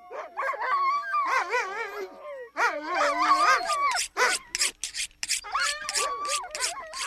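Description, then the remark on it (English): A sled dog team yaps and yelps excitedly in anticipation of being fed while their owner sharpens knives to skin and gut a freshly killed bull muskox, high-pitched barks and whines overlapping in a dense, continuous chorus, with no speech. “His dogs are yapping in anticipation because Floyd Sidney is sharpening his knives to skin and gut a muskoxen he's just killed.”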